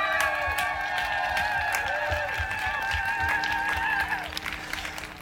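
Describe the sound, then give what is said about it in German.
An outdoor crowd on Leipzig's Augustusplatz applauds at the 30-year CSD Leipzig event, a dense, steady patter of clapping that lasts the whole stretch, with sustained high tones and faint cheering mixed in over the noise. “darf ich euch erstmal bitten, einen kräftigen Applaus von unserem Publikum einzufordern und die Kamera fängt vielleicht mal das wunderbare Publikum hier auf dem Augustusplatz ein.”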